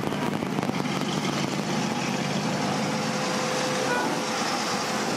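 Steady, loud outdoor ambience at a car show, with vehicle engines idling and rumbling and a brief high tone cutting through the noise near the end.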